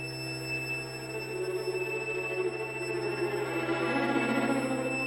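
A steady, thin high-pitched whistle simulating tinnitus holds unbroken over a low hum and a swelling bed of noisy rushing, like a ringing in the ears.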